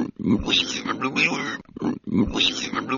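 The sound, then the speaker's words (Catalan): A human voice imitates a pig, making two close, loud bursts of snorting oinks and grunts separated by a brief pause. “No va poder parlar, solament podia fer el so que fan els porcs.”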